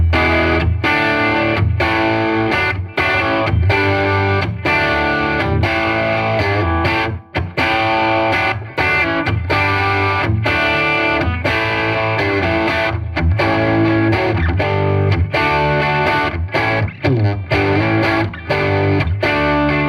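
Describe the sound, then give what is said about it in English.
Crunchy, distorted electric guitar played with a bright, biting bridge-pickup tone, strummed chords and riffs ringing continuously and loudly for the whole stretch, with no talking. “Now it's some more like crunchy tones. I'm going to start with the bridge pickup first.”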